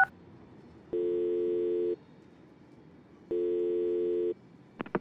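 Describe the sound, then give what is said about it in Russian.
A phone ringback tone, calling Dmitry Spirin from the phone's contact list, sounds twice, each steady electronic tone lasting about a second with a long pause between, clear over faint background hiss, with a couple of small clicks at the end. “я набираю в телефонной книге «Спири». И мягкостью большого пальца жму в надпись «Дмитрий Спирин» на залапанном экране телефона.”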